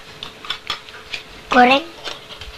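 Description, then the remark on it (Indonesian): Pots, pans and spoons clink and clatter in a scattered series of light knocks as they are set down and arranged, one pot for boiling and one for cooking, with a brief high vocal sound partway through. “Enggak, ini dah lagi nata. Ini untuk rebus, ini untuk masak. Masak sendoknya kayak gini ya.”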